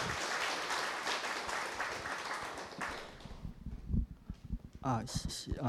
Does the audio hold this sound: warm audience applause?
yes